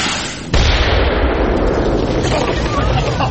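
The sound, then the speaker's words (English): A grenade explosion goes off half a second in with a sudden loud blast, followed by a heavy, sustained roar and rumble that keeps going until the end. “A grenade? Taken from your own store, Sergeant. Now, I'll place it by the door”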